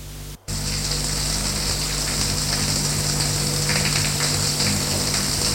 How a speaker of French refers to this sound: Comment faire ? Douche ou bain ? Pour que l'eau coule dans le pommeau de la douche.